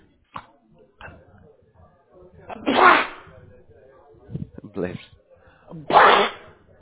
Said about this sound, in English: Bless you. So sorry about that. Oh, bless you. That's no problem. I understand. You know, one of those little cold bugs.